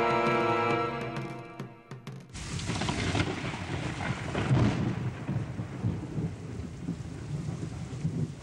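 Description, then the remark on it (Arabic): Steady rain pours down while low thunder rumbles and rolls, the storm loud, following a brief opening of sustained musical tones. No one speaks. “هذا المطر هو بداية السنوات السبع من الوفرة والخصب.”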